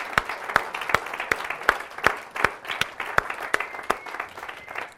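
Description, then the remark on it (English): A church audience on Christmas Day applauds steadily for several seconds, dense overlapping claps with a few sharp, louder claps standing out from the crowd, no voices speaking over it. “And I want to applaud you, hallelujah, for that.”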